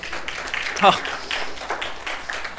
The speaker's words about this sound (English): I didn't tell them to clap. They did it for me, and then I joined in, okay? That wasn't sign language to keep go, okay?